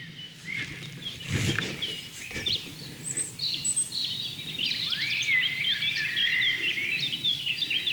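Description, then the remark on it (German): Bright, rapid fluting phrases of a blackcap's song ring out clearly, rising into a fast, rich warble over a soft outdoor background, with a brief low thump near the start. “Das helle, amselartige Flöten, schnell vorgetragen von der Mönchsmücke.”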